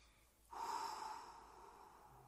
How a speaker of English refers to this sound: Let's try a breathing exercise that you can do before you have to speak that will help slow you down. Do this with me now. Breathe out completely.